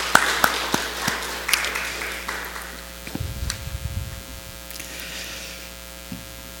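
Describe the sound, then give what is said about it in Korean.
A church audience applauds to thank the military veterans among its members, many hands clapping in a dense, scattered patter that thins out toward the end, with a steady low electrical hum running underneath throughout. “또 일어나세요 그러면 좀 쑥스러우니까 그냥 박수로 한번 고맙습니다 하는 그런 표시를 하겠습니다.”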